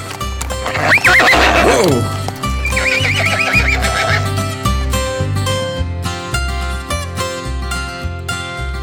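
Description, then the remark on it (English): A horse lets out two loud whinnies, one after the other, while a steady rhythmic clip-clop of hooves carries on underneath throughout. “Careful on that horse, he kicks.”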